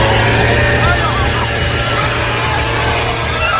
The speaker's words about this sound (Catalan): Aquest és el so d'una motosserra que, amb molta emoció per part dels seus seguidors, branda els mítics polítics